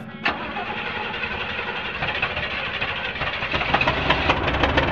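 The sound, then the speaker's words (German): A car engine cranks over and over without catching, a steady rhythmic grinding whir that grows a little louder toward the end before cutting off. “Das kann doch jetzt nicht wahr sein. Gerade jetzt, wo ich das Auto so dringend brauche.”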